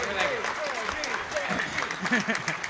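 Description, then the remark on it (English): An audience claps and cheers steadily for the show's guest George Leroy Tirebiter, a dense wash of applause with voices mixed in, loud and sustained for a few seconds. “Let's hear it for George.”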